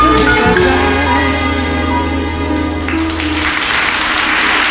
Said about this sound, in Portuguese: Uma gravação histórica, os aplausos estão aí, gravação feita de um show ao vivo